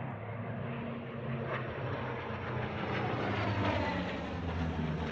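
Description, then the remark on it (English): An F-14 fighter jet roars overhead as it flies by during practice, a steady, dense engine rumble with a rushing hiss that holds at a constant loudness throughout, with no voices present. “This is an F-14 in a...”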